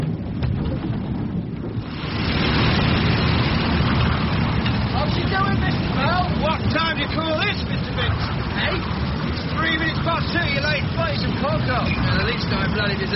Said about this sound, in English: Has number 5 engine been fixed? We need all the power we can get.